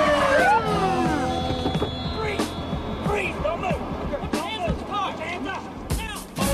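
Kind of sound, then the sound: vehicle, police car sirens approaching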